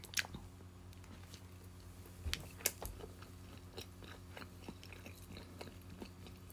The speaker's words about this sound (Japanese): まあ、ちょっと咀嚼音しますけども、いただきたいと思います。まあ、ご注意ください。